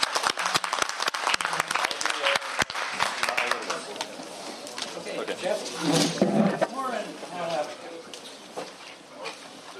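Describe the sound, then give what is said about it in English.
An audience breaks into a round of applause for the panelists, dense clapping that thins out after a few seconds as a murmur of voices and crowd chatter rises and carries on. “And with that, let's give a round of applause to the panelists, and we'll bring another panel in here.”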